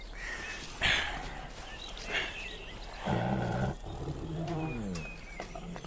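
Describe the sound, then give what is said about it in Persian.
A tiger gives a few rough, throaty growls and a longer, deeper roar midway, with a low rumbling snarl trailing off afterward; no one speaks. “خیلی خوب ببره، این بچه رو میبینی؟”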